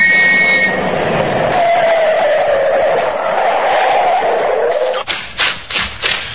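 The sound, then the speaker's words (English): A speeding car roars past at night with a steady rushing noise and a falling engine tone as it slows, then a few short, scraping bursts as it brakes to a stop, pulled over by a police constable. “Seems to be travelling at quite a rate. Too fast, even this time of night. Stop that car! Pull over here!”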